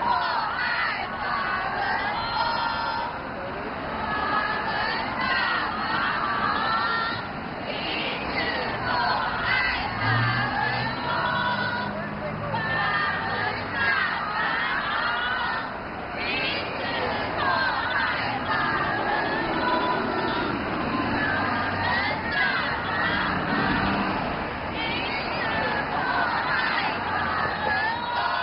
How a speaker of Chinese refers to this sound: 大约9点，有警车开道，胡锦涛的车队在法轮大法好的呼声中驶过。